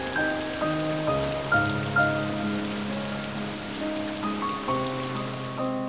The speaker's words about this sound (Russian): И дождь весной радостный, бесшабашный, бурным весельем своим, заражающий все вокруг. Все живое радостно впитывает влагу, словно живую воду.